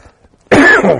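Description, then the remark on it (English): A single loud cough with a rough, throaty edge, bursting out after a brief near-silence and trailing into a gravelly throat clearing. No one speaks. “Not listen to my cough, but just don't want you to get into, you know.”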